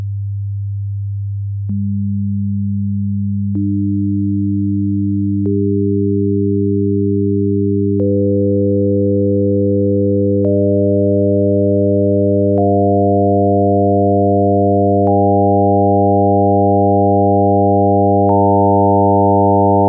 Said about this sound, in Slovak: Čiže alikvotné tóny sú 100x2, 200, 100x3, 300, 100x4, 400 a tak ďalej. A teraz si vypočujte, ako to znie dohromady. Čiže najprv nasleduje fundamentálny tón a potom alikvotné tóny. Nech sa páči, tu je ukážka.